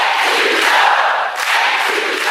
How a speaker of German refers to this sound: Wir machen den nächsten Schritt nach vorn in unserem Kampf, sagte Harris und schob einen Dank an Präsident Biden ein. Das Publikum griff dieses Thank you, Joe in Sprechchören auf.